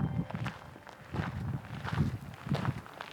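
Steady footsteps of a reporter hiking crunch along a gritty trail in a park, about one step every half second, each with a low thud and a bright scrape, with no voices.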